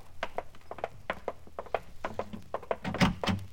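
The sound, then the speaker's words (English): A front door being opened: a quick run of light clicks and rattles from the latch, building to a louder thunk near the end, with no voices. “Now, listen, you got to answer that front door.”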